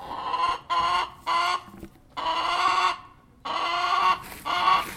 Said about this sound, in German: Heute bin ich im Hühnerstall des Gymnasiums Neckartenzling. Hier leben 5 Hühner und 2 Hähne. Versorgt wird das Federvieh von der Bio-AG der Schule. Ich spreche mit einer der Hähne.